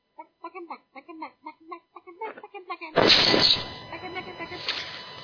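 A quick run of nasal quacks, like a duck sound effect, in a choppy rhythm for about three seconds before a loud, noisy whoosh cuts in and trails off.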